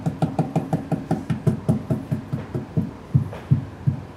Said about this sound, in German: Wenn man früher an eine Hauswand geklopft hat, hat sich das so angehört. Heute hört es sich so an.